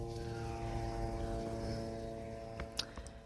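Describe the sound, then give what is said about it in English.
A steady, droning hum of drones overhead during a war, constant and moderately faint, with a few sharp clicks near the end and no voices. “Can you hear the sound of the drones?”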